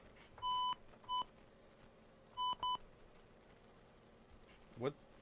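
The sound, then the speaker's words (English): Touch-tone dialing beeps as a phone company's toll-free number is dialed on a phone: four short, bright electronic tones, clearly audible in two uneven bursts separated by a pause, over a faint background hum, followed by a brief soft rustle. “Oh, you see, you got to dial fast these days. You can't just think about dialing.”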